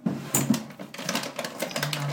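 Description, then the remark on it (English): Dry cat food rattles and clatters into a dish in a dense, continuous stream of small hard clicks lasting about two seconds, with no talking. “If they hear me emptying the dry food in the dish, they might come.”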